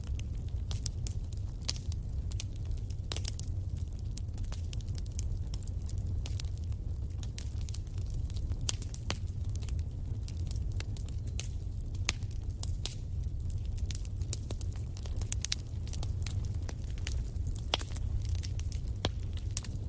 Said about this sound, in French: Et laissez-vous bercer par le doux ronronnement du feu qui crépite.